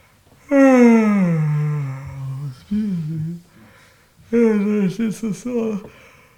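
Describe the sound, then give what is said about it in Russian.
A voice imitates the long, deep yawn of the god Vishnu, a drawn-out voiced exhale sliding downward in pitch, followed after a pause by a few shorter, wavering vocal sounds, all fairly loud. “Вот за счет этого зевания из него исходят миллиарды вселенных.”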